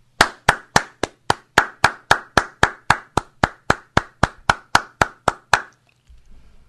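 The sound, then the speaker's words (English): A single pair of hands claps about twenty times in a slow, steady, even rhythm, loud and close, then stops, leaving a brief faint low rumble. “That calls for cheering”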